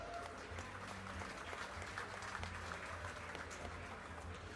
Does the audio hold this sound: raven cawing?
no